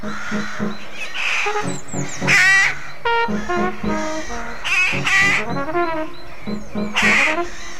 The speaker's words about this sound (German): Die Saatkrähe. Die geselligen Vögel bevölkern Parks und Gärten zu Hunderten, teils Tausenden und treiben manche Menschen zur Weißglut.